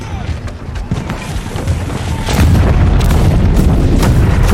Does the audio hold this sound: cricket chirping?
no